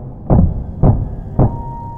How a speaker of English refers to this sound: The knocking resumed, faster this time, louder.